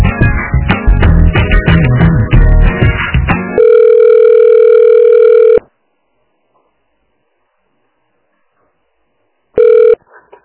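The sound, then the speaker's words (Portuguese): A burst of rapid telephone keypad beeps gives way to a steady, loud phone line tone lasting about two seconds, then silence, and the same tone returns briefly near the end, as a phone call is being transferred to a colleague. “Vou transferir.”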